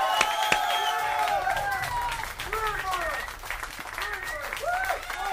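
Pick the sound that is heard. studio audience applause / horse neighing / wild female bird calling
studio audience applause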